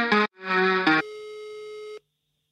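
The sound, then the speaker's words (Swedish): A telephone ringback tone plays through a phone line while calling David Sundin: a few short electronic tones, then one steady buzzing tone lasting about a second before cutting off. No one speaks. “Okej, okay, vi ringer David Sundin.”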